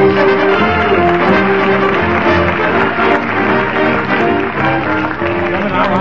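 A loud, sustained wash of studio audience applause and cheering for Fibber McGee fills the whole stretch, steady, with band music playing underneath.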